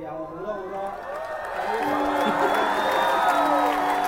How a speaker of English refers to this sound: That was a joke. You weren't supposed to cheer for that. That was just a joke.